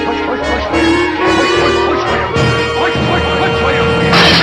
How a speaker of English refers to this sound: The glass shatters.